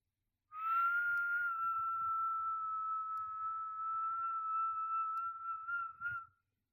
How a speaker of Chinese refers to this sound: 已经受到了口哨声的传唤了。第六次，你那些小棒棒里的精虫现在正不受控制的被口哨的声音往外勾。